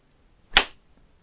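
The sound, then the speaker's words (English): A single sharp whip crack snaps out loud, with a brief bright tail, in an otherwise quiet moment with no talking. “And when I do whip you, it feels so fucking good.”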